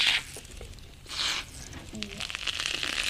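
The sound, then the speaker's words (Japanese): Hissing bursts of carbonated spray applied to the scalp during a head spa give way to a fine, steady crackling fizz, like tiny bubbles popping on skin; a voice briefly exclaims over it. “パチパチ言ってる。 わたパチみたいなのが。”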